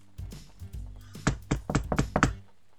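knocking on a door

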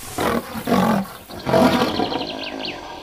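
lion roaring

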